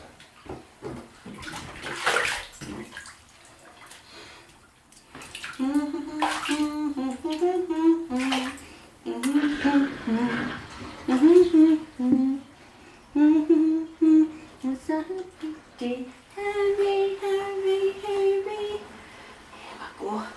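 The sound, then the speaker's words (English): Bath water drains, rushing and gurgling steadily out of a tub, while a young child babbles and vocalizes over the watery noise throughout. “Bye bye, water.”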